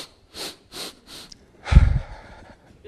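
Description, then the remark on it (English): A voice imitates the sniffling of a boy crying in his room behind the door after being spanked: three quick, soft sniffs in a row, then a louder, wet snorting sob, alone with no talking. “Sniffing inside the door, still crying.”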